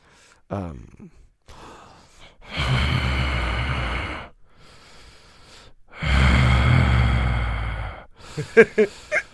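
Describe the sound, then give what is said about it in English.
A person imitates a horse with two long, loud, breathy bursts, like blown-out snorts or whinnies, separated by a short pause, with a few quick softer breaths at the end. “Can you do an imitation of what the horse would sound like?”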